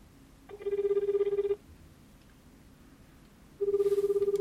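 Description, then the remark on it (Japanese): A telephone ringback tone from a call to a law office sounds twice, each a roughly one-second burst of rapidly pulsing tone separated by a two-second pause, clear and steady over faint background hiss. “いや、だから電話しようと思ったんで、そうそう、ここに、 はい、 あの、訴えるって言われてるんですけど、今電話してみる。”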